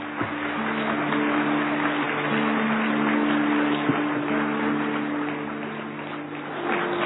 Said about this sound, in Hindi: मुबारक हो मुबारक हो मुबारक हो और हम सभी ताली बजा करके एक बार मुबारक देंगे जोर से ताली बजाएं।